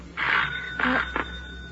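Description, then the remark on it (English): A doorbell rings three times in quick succession, a long ring, then a second, then a brief one, fairly loud with no one speaking, as a doctor and a sheriff arrive at the house. “The doorbell.”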